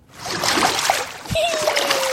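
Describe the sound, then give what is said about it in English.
Water splashing and sloshing in a toilet bowl as she plays and splashes around in the toilet, a steady, bubbly churn lasting the whole moment, with a thin high tone drifting in near the end. “And she was playing in the toilet. It was so embarrassing. It's like the thing she was like saying. Splashing around.”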